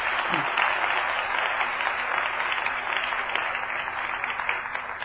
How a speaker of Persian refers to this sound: آفرین بر تو، لطفا برای بنده شایسته خدا کف بزن.